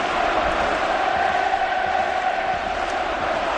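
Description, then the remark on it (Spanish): A loud, steady roar of Atlético de Madrid fans chanting and cheering in unison at the Wanda Metropolitano stadium after the team's elimination from the Champions League by Manchester City, sustained without a break, with no individual speech standing out. “Este es el sonido del Wanda Metropolitano con el Atlético de Madrid eliminado de la Champions.”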